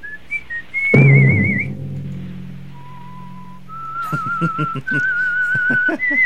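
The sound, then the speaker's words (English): A man whistles a slow, eerie melody of sustained, wavering notes, the theme of a 1940s radio show, interrupted early by a deep thump, then carrying on clearly over faint rhythmic background sounds. “So this was entertainment in the 40s, a dude whistling?”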